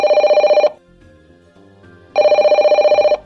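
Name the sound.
telephone ringing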